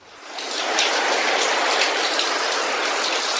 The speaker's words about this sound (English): The deafening sound of water surging from the burst dam in Solai, Nakuru. Eyewitnesses say walls of the water reservoir located on top of a hill collapsed, causing flood waters that swept everything on its way, including power lines, homes and people